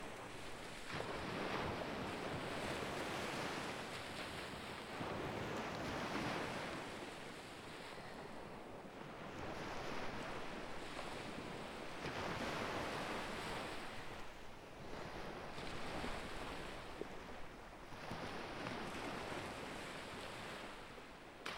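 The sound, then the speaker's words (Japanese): Ocean waves wash onto the shore in steady surges, each broad roar of surf swelling and fading every few seconds, with a continuous hiss of water between them and no voices. “私が海行けなかったな。”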